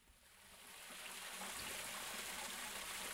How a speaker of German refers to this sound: Auf halber Höhe der Strudelhofstiege im 9. Wiener Bezirk plätschert ein Brunnen